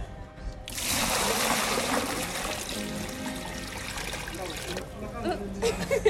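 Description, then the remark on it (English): In the morning, water is pumped into a large cistern outside a hotel in Ambovombe, Andry province, with a loud, continuous rushing splash that starts abruptly, holds for several seconds, then eases off, with faint background voices. “The morning that I was there, they were pumping water into it, and then people were taking water out.”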